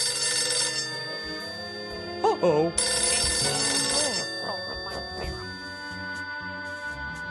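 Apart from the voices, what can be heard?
telephone bell ringing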